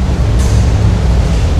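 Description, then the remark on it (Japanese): A loud, steady low rumble of rail traffic heard under a railway overpass fills the whole stretch, with a brief hiss of air bursting in near the start and again at the very end. “今ガード下なのでものすごいうるさいですね。”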